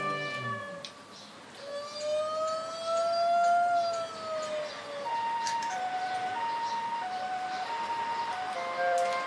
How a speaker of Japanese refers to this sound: それにパトカー、難しい言葉で言うと緊急自動車って言うんだ。 急いで行くときはみんなサイレンを鳴らして走るんだよね。 ピーポー。